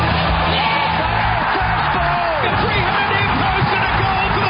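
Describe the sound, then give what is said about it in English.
A racecourse crowd roars steadily as the field leaves the stalls at the start of a race, a loud wash of mixed cheering, whoops and shouting voices with no pauses, sustained at an even high level for several seconds. “Fields sent on their way to the roar of the crowd.”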